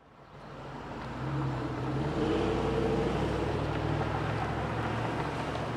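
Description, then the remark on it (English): Steady street traffic rumbles at the intersection of Kalamazoo Street and Burton on the southeast side of Grand Rapids, with engines droning and passing vehicles swelling in volume, all under a constant roar of wind buffeting the microphone on a windy day. No one speaks. “This is the intersection of Kalamazoo Street and Burton in Grand Rapids. It's a windy day in this predominantly black neighborhood on the southeast side of the city.”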